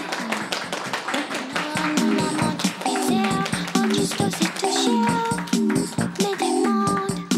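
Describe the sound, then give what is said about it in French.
Audience applause at a live public recording at the Hangar in Chalette, during the show Manger: a dense, steady patter of many hands clapping for several seconds, with scattered voices and cheers rising above it, holding loud throughout. “Applaudissements.”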